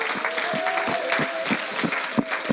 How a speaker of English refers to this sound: Why don't we give the Lord a hand clap of praise this morning?